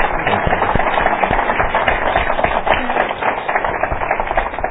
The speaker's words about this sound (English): Let me join me in a round of applause.